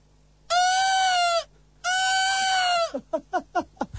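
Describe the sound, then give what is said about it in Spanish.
A voice imitates a peacock's call: two long, loud, nasal wails with a steady high pitch, then a rapid run of five or six short, downward-sliding yelps. “Haz un pavo real, por favor.”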